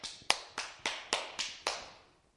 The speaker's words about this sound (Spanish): ¿Y sabe qué se oye? Se oyen unas sandalias ahí, chapalear ahí.